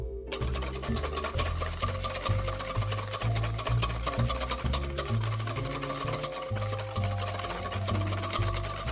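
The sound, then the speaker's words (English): Rapid, steady clicking and tapping of a whisk beating two eggs until foamy in a mixing bowl set on a towel, continuing without pause, with a low, pulsing musical background underneath and no talking. “Okay, these eggs need to be whisked until they are foamy.”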